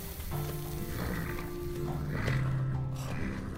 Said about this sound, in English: Oh, wow, you got horses too? Mm-hmm. What for?